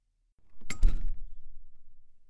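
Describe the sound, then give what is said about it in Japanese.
A door to a room opens with a short mechanical rattle followed by a solid low thud, then a faint rumbling tail fading out. Moderately loud, no voices. “あ、部屋の前に着いたよ。ドア開けるね。”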